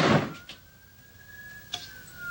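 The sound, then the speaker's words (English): A door opens with a soft thump and a long, thin creaking squeak as a man heads out, then closes with a sharp click. “Gordon heads out the door.”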